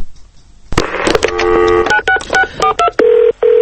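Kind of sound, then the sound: signal or alarm, telephone keypad dialing tones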